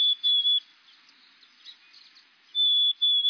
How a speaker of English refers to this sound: Let's listen again to the black-capped chickadee. Pretty soon, you'll hear these chickadees begin to sing, a sound quite unlike their call.